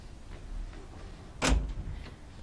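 A door to a room swings open abruptly without a knock, one sharp clack followed by a brief low rumble, with no one speaking.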